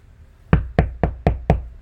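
Five heavy, evenly spaced thuds pound on a locked door in quick succession, each a loud impact with a short resonant decay, and no voices.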